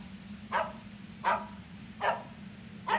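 A dog, Taro, barks four times at a van in a steady rhythm, each bark short and sharp, over a constant low hum in the background. No one speaks.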